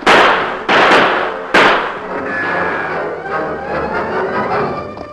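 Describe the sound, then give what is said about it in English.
Three loud, sharp gunshots crack out in quick, uneven succession as crooks fire at troopers among trees, followed by a lingering, fading ringing hum with no voices. “Those crooks are busy firing at the troopers.”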